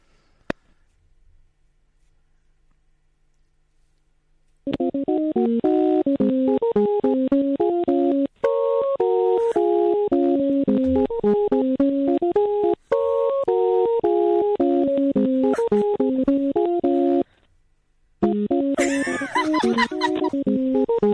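A faint click and a few seconds of near silence, then a loud melodic phone ringing tone from a call to Hotel Icefjord repeats a chime-like run of notes, broken by short gaps, with no one talking.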